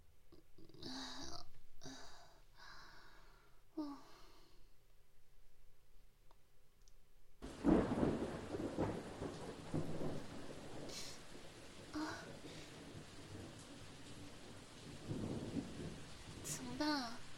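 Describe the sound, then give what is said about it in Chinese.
After a quiet opening with faint murmuring, steady heavy rain suddenly pours down, and deep rolls of thunder rumble twice beneath the hiss of the downpour. “没听说今天会下雨啊。”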